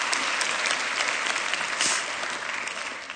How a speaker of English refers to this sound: It has been months since we've been able to be led in worship by a choir and the accompaniment orchestra. I think they deserve a round of applause for... Thank you.